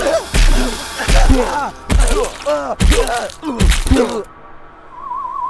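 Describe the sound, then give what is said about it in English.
Five heavy punches to a man's head land in a steady rhythm, each one drawing a strained, pained groan from him, loud, before everything drops to a quiet hum. “He's registering brain trauma, almost as if somebody were actually punching him in the head.”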